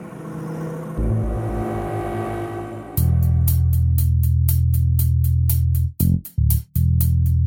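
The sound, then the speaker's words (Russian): A black minivan engine revs up and roars at high speed along a motorway at night, a loud, steady drone with rhythmic pulsing whooshes and a couple of brief dropouts near the end. “Они покинули форты Деймарми и несколько часов мчались на огромной скорости по ночной автостраде.”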